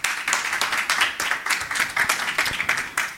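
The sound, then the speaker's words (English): A crowd applauds steadily to welcome neighbors from Luxembourg presenting Lux Chat for Gov, a Matrix-based government chat. Many hands clap in a dense, continuous patter with no voices standing out, sustained at an even, moderate loudness throughout. “A warm round of applause to our neighbors from Luxembourg.”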